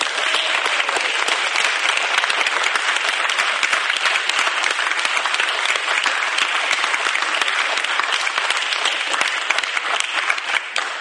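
An audience claps steadily for about eleven seconds to welcome a guest before an interview, a dense, even wash of many hands at a constant loud level with no voices over it.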